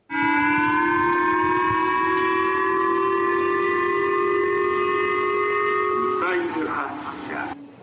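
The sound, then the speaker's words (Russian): A loud air raid warning siren, sounded in Japan as a North Korean ballistic missile flew over the country, holds a steady, droning wail for about six seconds, then wavers and breaks up before cutting off near the end. “Сегодня в северных городах Японии и даже в Токио зазвучала воздушная тревога.”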